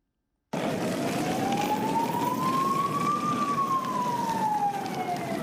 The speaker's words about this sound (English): The wailing of sirens were all that could be heard on the streets of Brussels this morning.